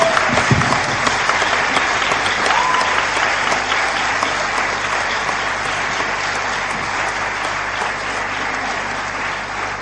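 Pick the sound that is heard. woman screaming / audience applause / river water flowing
audience applause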